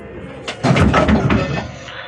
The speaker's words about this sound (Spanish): Rumores de cuerpos que se desploman. ¿Oyó? Sí, santo Dios. ¿Qué significará eso?